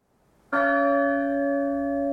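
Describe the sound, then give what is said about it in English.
The Great Bell is struck once after a brief hush, its deep, loud tone ringing out and lingering with a rich, slowly fading hum; its peals are separated by a long pause of about 30 seconds. No voices are heard. “The peals of the Great Bell are separated by an ominously long pause.”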